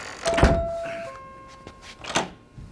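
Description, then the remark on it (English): A shop door at Hagler's thuds shut, a small bell chiming briefly with the impact, followed by a couple of sharper clicks and knocks as the lock is turned. No one speaks. “Now hurry up and lock the door.”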